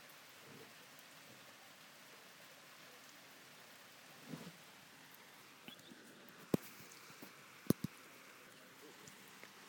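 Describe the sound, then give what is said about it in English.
Steady rain hisses softly in the background, a continuous wash of drops, with a few sharp isolated taps like drips landing toward the end. “It's still raining.”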